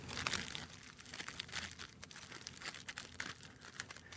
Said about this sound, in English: So he's gingerly pushing all the weed into the paper, making it one level across it. It'll be a cone. Oh, no, he's rolling a cone, which means that he's twisting out the amount of cannabis towards one side of the paper. The other side's larger.